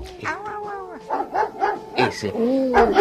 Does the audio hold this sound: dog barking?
yes